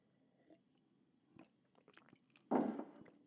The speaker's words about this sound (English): I need another sip of hot chocolate.